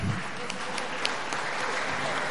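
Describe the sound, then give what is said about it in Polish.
Steady audience applause for all the winners receiving awards and IDOL statuettes. A dense wash of many hands claps at an even level for the whole stretch, with a few sharper claps standing out. “Oczywiście, Szanowni Państwo, wielkie brawa dla wszystkich zwycięzców, otrzymujących wyróżnienie i statuetki IDOL.”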